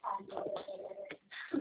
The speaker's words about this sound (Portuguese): Pomba. Pomba. Pomba. Isso, pode ser.